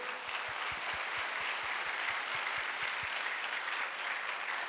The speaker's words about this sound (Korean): 오늘 찬양대가 은혜로운 찬양했는데요. 한번 찬양대 박수 한번 해주시고요.